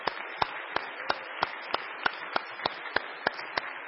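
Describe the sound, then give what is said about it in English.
Audience applause for the interns: a steady wash of many hands clapping, with a regular beat of sharper claps cutting through about three times a second, at a moderate level with no voices. “But I would love for the interns to stand up and for us to give them a round of applause.”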